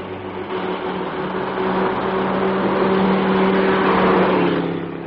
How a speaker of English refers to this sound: This is a lonely stretch of road, and there's a large German car coming up behind us. Ah, she's going to pass.